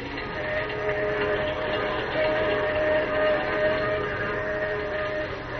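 A train roars steadily along the tracks at night, a dense continuous rumble with a faint sustained whistle-like tone threading through it, loud throughout with no voices.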